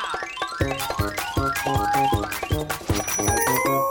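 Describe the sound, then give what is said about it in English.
Wooden spoons drum out a quick, steady rhythm of sharp knocks, each hit ringing with bright metallic clinks and tones, loud and continuous for the whole stretch with no voices. “I bet I could use those spiffy spoons like drumsticks.”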